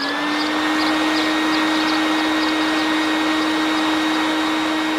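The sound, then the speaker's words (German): The motor of Pitti's handcart toy rocket, started as a test, roars in a steady, loud whirring drone, with a constant low hum under a broad hiss that holds unchanged for the whole stretch, with no voices. “Und jetzt wirft Pitti zur Probe den Motor an.”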